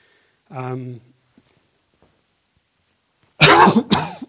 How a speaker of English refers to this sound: I don't know how I can cough and not make it bad.